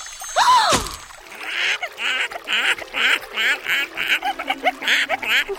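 A duck quacks repeatedly in a quick, rhythmic series of nasal calls, fairly loud, after a brief rising whoosh at the start.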